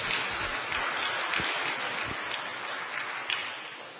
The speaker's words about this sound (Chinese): 我们再一次鼓掌，谢谢几位姐妹的见证。